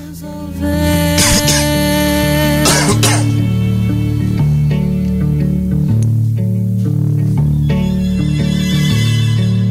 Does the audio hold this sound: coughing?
yes